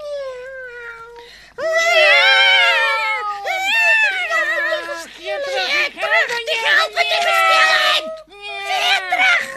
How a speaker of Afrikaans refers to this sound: Al die katte gaan sit op die winkel se stoep en op die dak en hulle skree die hele nag lank hard soos net katte kan.